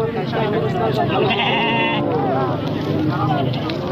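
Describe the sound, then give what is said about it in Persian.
Sheep and goats bleat repeatedly at the Ganj Bazaar livestock market on the outskirts of the city of Frizko, where herders have brought goats, sheep and cattle for sale. Their wavering cries overlap in the busy, crowded market under a man's continuous narration. “ده‌ها مالدار چارپایانشان مانند بز، گوسفند و گاو را عمدتاً به علت خوش‌سالی برای فروش به گنج بازار در حومه شهر فریزکو آوردند.”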